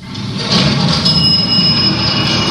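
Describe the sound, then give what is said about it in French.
An elevator running: a steady, fairly loud mechanical rumble with a thin, high whine riding on top, continuous for the whole stretch with no voices. “C'est un ascenseur.”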